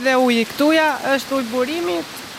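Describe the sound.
Steady rushing water of a spring-fed stream tumbling down rocks right beside a dining table hisses continuously in the background while a voice vocalizes in rising and falling tones over it.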